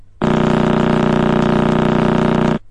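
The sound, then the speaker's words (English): A pulsar's signal, from a neutron star rotating 33 times per second, rendered as sound: a loud, steady buzzing drone pulsing rapidly and evenly, like an idling diesel engine, starting abruptly and cutting off after a couple of seconds, with no voices. “What you just heard, and I'll play it again, sounds like a tractor engine because it rotates at roughly the same times per second as a diesel engine, and that number, for those who like numbers, is 33.”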